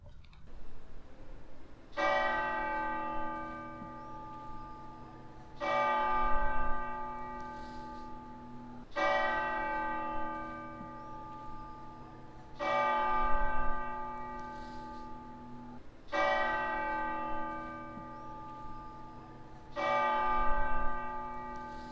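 ambience, cathedral church bells ringing

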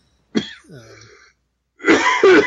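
human body sound, cough

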